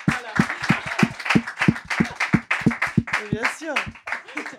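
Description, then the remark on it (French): An audience breaks into steady, dense applause for themselves as champions, with many hands clapping at once and voices calling out and cheering over the clapping for several seconds. “Je partage complètement ça et donc nous sommes, toutes les personnes présentes ici sont des champions et des championnes, donc applaudissons-nous.”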